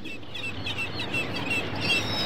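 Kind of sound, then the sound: bird, seagulls calling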